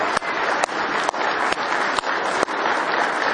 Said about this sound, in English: Let's give him one more hand clap of praise.